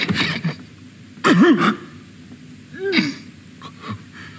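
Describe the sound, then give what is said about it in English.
A sudden, explosive sneeze-like sob from Patrick Stewart as Claudius, alone, with a wavering, strained vocal cry, followed a moment later by a second shorter choked sob, amid quiet breathing and no talking. “And then there's the sudden explosion of emotion, a sneeze as much as a sob, and though alone, Claudius still tries to maintain his facade.”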